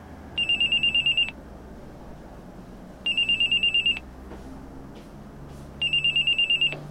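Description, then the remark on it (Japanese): A telephone rings three times with a call from the criminal behind a refund scam, in clear, evenly spaced bursts of rapid trilling bell tones, each lasting about a second, with a low background hum between rings and no voices. “しばらくして犯人から電話がありました。”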